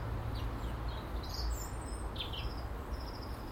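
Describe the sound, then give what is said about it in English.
A flock of about 7 or 8 small birds chirp in quick, overlapping bursts in an apple tree by a feeder, their high tweets scattered over a steady outdoor rumble of low background noise, with no talking. “I love when they're chirping madly.”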